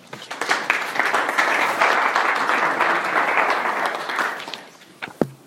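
An audience breaks into a sustained round of applause, dense overlapping claps holding steady for about four seconds before tapering off into a few scattered claps.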